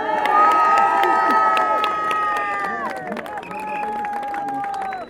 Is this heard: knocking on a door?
no